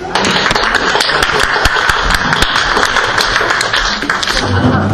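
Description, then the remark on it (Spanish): Steady audience applause fills the whole stretch, a dense, loud patter of many hands clapping at once with sharp individual claps popping out, no voices heard. “Muchas gracias, More. Un aplauso.”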